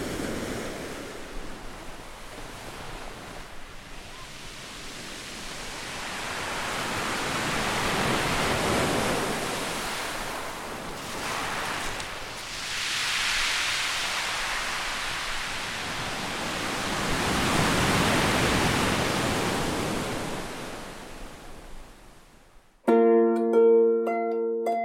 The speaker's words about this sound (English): Could listen to the sea for a very long time.